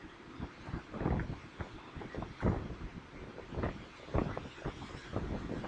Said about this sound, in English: You hear the waves? The wind.